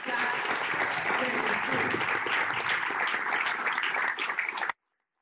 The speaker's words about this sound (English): So, help me please give Howard a round of applause for teaching everybody else.